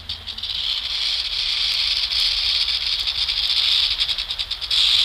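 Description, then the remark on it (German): A sustained, loud snake rattle buzzes continuously for several seconds, a dry high-pitched hiss with slight flickering pulses, alone with no voices. “Richtig, es geht um Schlangen, aber nicht nur.”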